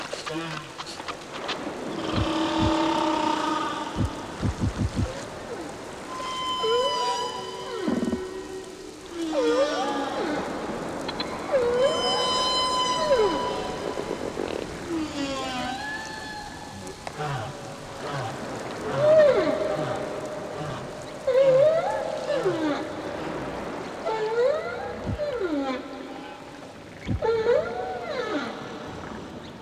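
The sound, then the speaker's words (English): Humpback whale song recorded off Maui, Hawaii: a steady series of drawn-out moans, rising whoops and wavering harmonic cries that overlap and answer one another over a low underwater rumble for about thirty seconds. “So I think this is humpback whales, and they sound like they're having a conversation.”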